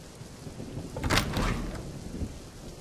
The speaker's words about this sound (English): Oh, wow. You look like you've just walked the plank on a pirate ship. How long has it been raining like this? An hour? Damn.